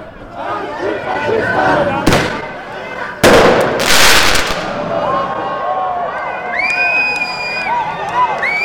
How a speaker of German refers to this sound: Ich stehe jetzt hier gerade vor der ÖVP-Zentrale Tirol in Innsbruck. Vor mir sind 6 Polizeiautos, über mir eine Drohne und die ersten Rauchbomben werden gerade in der Demo gezündet.